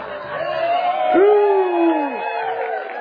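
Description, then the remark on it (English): An audience cheers and applauds in a dense, sustained wash of crowd noise, with one loud, high whoop rising and then falling through the middle of the burst. “You clap now, but little do you know what I have in mind.”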